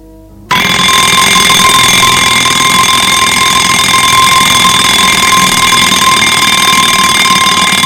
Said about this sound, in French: lendemain matin, le réveil a sonné à 6 heures.